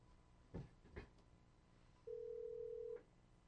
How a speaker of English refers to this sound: Well, I'll tell you what I'm going to do. I'm going to call him on the phone.